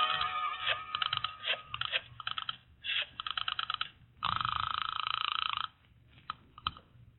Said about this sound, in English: I'll call him for you. I'll get him on the phone right now.